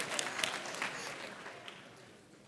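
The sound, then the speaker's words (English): An audience claps for the Lord in worship, a dense wash of overlapping hand claps with a few sharper claps standing out, sustained for a couple of seconds and gradually easing off. “Clap for the Lord.”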